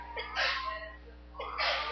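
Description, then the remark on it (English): Two breathy, hissing bursts about a second apart, like a stifled sneeze, soft, with no talking around them. “Bless you.”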